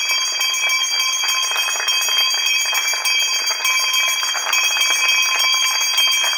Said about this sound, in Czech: Zazvonivši starim burzovnim zvonom, označila je početak trgovanja na frankfurtskoj burzi, koja je nakon izlaska Velike Britanije iz Europske unije od burze u Londonu preuzela poziciju najznačajnije.